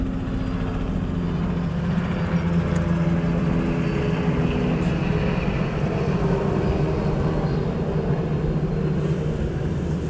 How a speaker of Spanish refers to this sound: Me parece que pasa un helicóptero, vamos a dejarlo pasar.